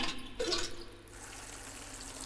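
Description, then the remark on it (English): Water runs from a leaky kitchen faucet in an old manor in a steady hiss, loudest and splashiest in the first second, then settling into a softer, even trickle. No one speaks. “Leaky faucet, it seems.”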